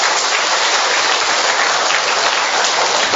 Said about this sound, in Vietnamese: Chúng ta tạ ơn Chúa và cảm ơn nhau một tràng pháo tay thật lớn, thưa anh chị em.